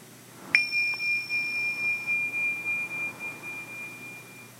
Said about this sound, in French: À chaque fois, la cloche que je vais entendre m'indiquera le début et la fin de mon activité méditative.